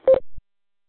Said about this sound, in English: That's got the Roger beep like the Garmins have and the Motorola radios and stuff. You know, just the standard, I don't know, whatever they're called, the standard 22-channel radio. It's got that bloop.